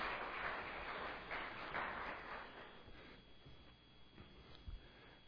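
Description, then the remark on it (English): An audience breaks into applause for the volunteers, a dense crackle of many hands clapping at once that stays steady for a few seconds before thinning out and fading to scattered claps. “Let's give a round of applause for our volunteers.”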